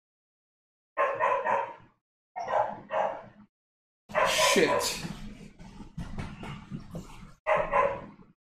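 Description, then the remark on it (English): A dog outside barks repeatedly in several short, loud bursts, with a denser flurry of barking in the middle and a person briefly exclaiming once. “If I get up and go outside, that dog's gonna stop barking.”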